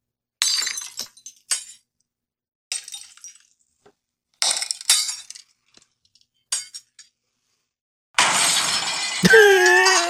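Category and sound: sound effect, glass breaking sound effect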